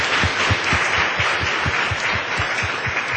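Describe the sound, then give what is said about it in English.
Sustained audience applause for a panel at the close of a conference working session: a dense, steady wash of many hands clapping at full volume throughout, with a faint rhythmic thump running underneath. No one speaks over it. “One final round of applause for everyone, all of you and the panel.”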